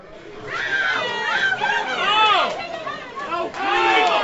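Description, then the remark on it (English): Crowd chatter of Golden State Warriors fans in a San Francisco sports bar: many overlapping voices talking at once in a loud, steady babble, with a few voices rising above the mix now and then, no words clearly picked out. “Golden State Warriors fans at this San Francisco bar have a lot to cheer for.”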